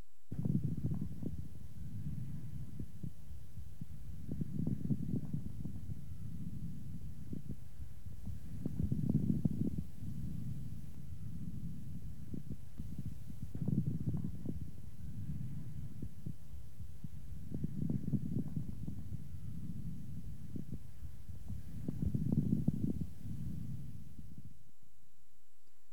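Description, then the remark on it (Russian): Muffled stethoscope breathing of a patient with bronchiectasis, with moist, medium and coarse bubbling crackles, swelling into roughly six rhythmic breath cycles over a low, steady body hum. No voices. “Сейчас вы услышите влажные, средние и крупнопузырчатые хрипы у пациента с бронхоэктатической болезнью.”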